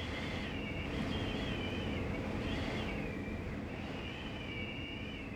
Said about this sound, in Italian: Improvvisamente arriva una folata di vento che alza tutte le foglie secche dal terreno, che cominciano a roteare intorno alla panchina dove è seduta Sofia.